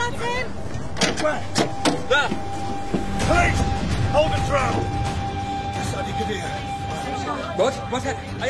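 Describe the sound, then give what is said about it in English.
A northbound Metrolink tram rolls along its rails with a steady low rumble, a thin constant whine and scattered clacks and knocks, while muffled voices murmur in the carriage. “Just been spotted getting on the northbound tram at Boston Metrolink.”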